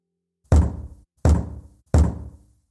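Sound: knocking on a door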